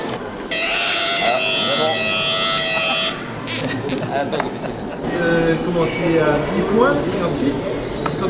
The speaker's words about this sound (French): et ensuite, quand il tombe à zéro, eh bien ça va fonctionner l'alarme.